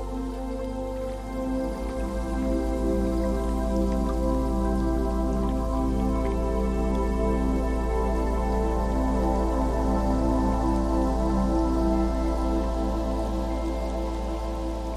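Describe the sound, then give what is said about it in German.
Gentle waves lap steadily onto a beach, a continuous soft wash of water with fine splashing texture and no distinct surges, holding an even level throughout with no voices. “Die Wellen rauschen beständig, kräuseln sich und schieben sich sanft an den Strand.”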